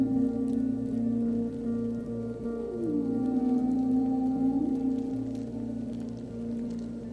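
Dense, continuous crackling of millions of snapping shrimp clicking as they sift through the sand on the ocean floor looking for food, close and like fizzing carbonated soda, runs steadily throughout, with low sustained tonal moans and a gliding pitch layered over it.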